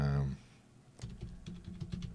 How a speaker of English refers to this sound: Can you hear me typing? Hopefully, you guys can hear me typing.